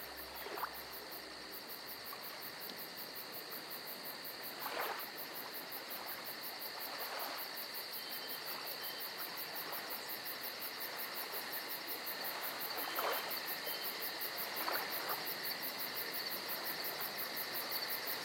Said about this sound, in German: Und nur ganz leise im Hintergrund beginnen sanft die Grillen zu zirpen.